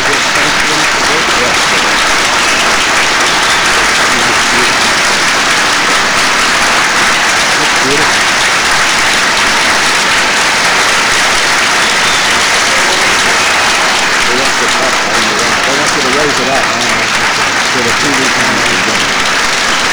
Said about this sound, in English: May we present this to you, sir, with our compliments and applause.